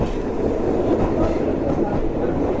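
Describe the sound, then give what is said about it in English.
A London Underground tube train pulls in, a loud, steady roar of rumbling wheels and rattling carriages filling the space without letup. “Sound is my tube train arriving, and so I'll stop recording now.”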